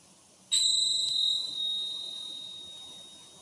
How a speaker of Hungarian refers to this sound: Most pedig megcsendítek egy csengettyűt. Figyeld most ennek a hangját, ahogy elindul, majd lassan elhalkul, és végül elhallgat. Amikor már egyáltalán nem hallod a csengettyű hangját, emeld fel az egyik kezed.